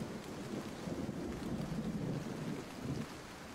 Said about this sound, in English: As a child, storms meant sweeping water off of the back patio, fighting with nature to keep the rain from spilling over into the house. And now, today, any time that it rains, my past resurfaces and I go into flood patrol mode.